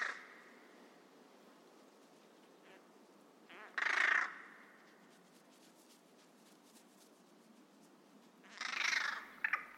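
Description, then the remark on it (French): A carrion crow gives two harsh, rasping caws about five seconds apart, clear over a quiet, faintly hissing outdoor background. “C'est bien une corneille donc.”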